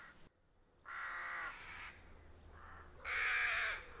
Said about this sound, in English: Can you guess what our special nature creature of the month is this month? I knew you could. It's crows. Anyone who's been to Magnuson Park has probably seen crows there.